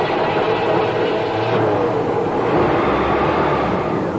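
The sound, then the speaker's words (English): A car engine roars to life after a jump-start from another car's battery and keeps running, a loud, steady rumble with a broad rushing noise that fills the whole few seconds without any talking. “All right, now why don't you get into the car and see if we can start it up.”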